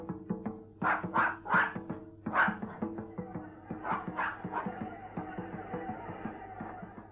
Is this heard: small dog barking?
yes